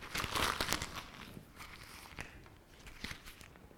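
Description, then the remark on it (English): A blank sheet of paper is crumpled up, a burst of dense crinkling and crackling that is loudest at first, then trails off into scattered softer rustles and snaps. “What have I just done? Crushed it.”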